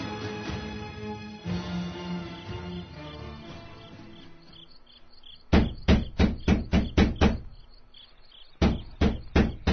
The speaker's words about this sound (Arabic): من الطارق؟ يا أبا الأديان هلم وافتح الباب